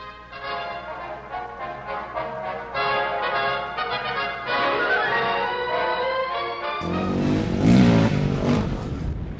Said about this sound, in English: Today, the crater field is a playground for motorbikes and ATVs. They kick up clouds of cinders as they cruise in and out of the craters.